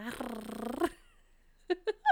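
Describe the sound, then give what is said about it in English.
A person makes a drawn-out whiny, whimpering vocal sound, then three short high-pitched yips, like a voice imitating a small puppy. “Why are you making mouth sounds? This isn't puppy ASMR, my guy.”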